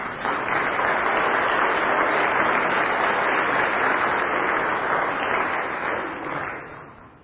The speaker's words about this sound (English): Now, I think the children have told the story of Christmas, the biblical story of Christmas, much better than I ever could. So I think they deserve a large round of applause.